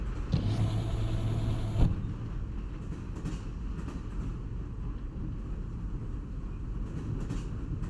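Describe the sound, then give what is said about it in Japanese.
A train rolls steadily along just after departing, heading toward an island, heard from inside as a continuous low rumble with a faint hum and a single soft knock early on. It stays moderately loud throughout, and no one speaks. “嬉しいです。出発しましたね。”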